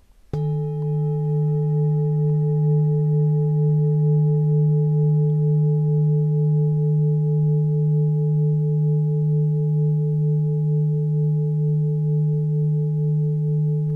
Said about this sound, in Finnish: Yksilöhoidossa on sitten 3 maljaa, mitä käytetään ja soitetaan kehon päällä. Jos kumautetaan yhtä maljaa, saat itse valita minkä kokoista ja millä iskimellä, että kauanko semmoinen ääni kuuluu?